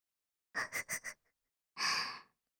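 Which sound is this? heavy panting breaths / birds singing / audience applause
heavy panting breaths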